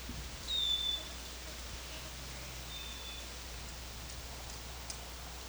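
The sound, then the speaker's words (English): Wild birds call faintly over a steady hiss: a thin, high whistled note early on, then a couple of softer chirps and a brief tick later, with no voices. “These are all wild birds.”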